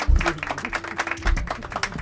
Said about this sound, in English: Wait, and now I'm clapping.